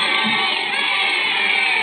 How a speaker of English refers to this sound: Listen. Nothing yet. Just crowd. But listen close.